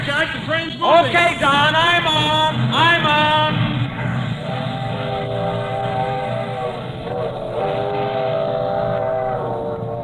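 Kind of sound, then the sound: vehicle, train starting to move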